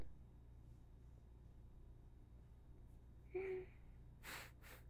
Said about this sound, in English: Just sniffing you.